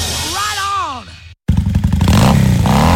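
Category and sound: vehicle, motorcycle engine revving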